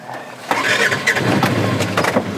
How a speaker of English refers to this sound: Tom LePesker's commute to work often includes an off-road vehicle. About 3 miles on this trail, which is a little far, but pretty nice trail all in all.